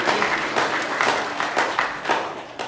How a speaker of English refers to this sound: Yeah, you can clap. Praise Him. Praise Him.